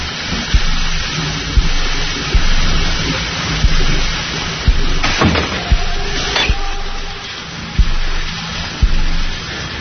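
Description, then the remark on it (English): A steady rush of cold water running from a kitchen tap, with a few soft knocks and clinks scattered through and no voices. “The water is still cold. Yeah, it's cold in the kitchen, too. I got it running, though.”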